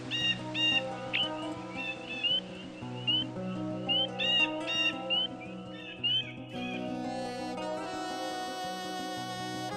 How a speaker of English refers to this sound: Except the terns, the white-tailed eagles, larks, seahawks, and herons also live here. The locals call Shidvar the paradise of birds. Listen, can you hear it? I mean the sound of birds. Beautiful, isn't it?